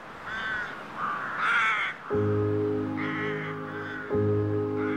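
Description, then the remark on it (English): A crowd of crows caws at a communal roost, signaling to other crows that intend to sleep there, harsh overlapping calls building into a dense, loud, continuous chorus. No one speaks. “where the birds were signaling to all the crows that intended to sleep in this roost, hey, here's our roost, here's how you're going to get in.”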